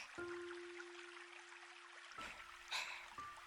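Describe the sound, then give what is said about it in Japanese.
Steady, soft rush of flowing water like a stream or small river, continuous and fairly quiet, with a faint sustained tone and a few brief splashy bursts near the end. “なくなるんだよね。この川、大きな道路が、できるんだよね。”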